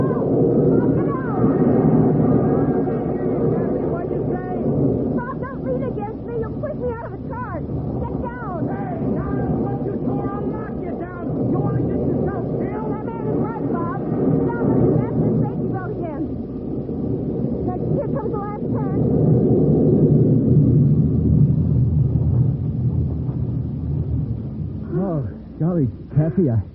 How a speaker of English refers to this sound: I always get a kick out of these roller coasters, but I certainly didn't mean to be reckless about it.